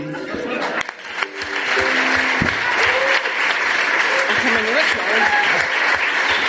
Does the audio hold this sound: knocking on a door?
no